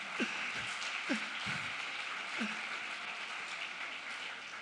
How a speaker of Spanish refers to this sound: Dale un aplauso aquí al jovenazo.